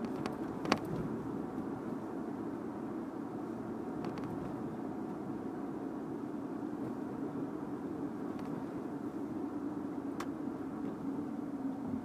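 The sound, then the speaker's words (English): An executive limo bus's engine rumbles steadily for the whole stretch, a constant low road drone with a few faint clicks and no voices. “Executive limo bus is what that bus says on the side of it.”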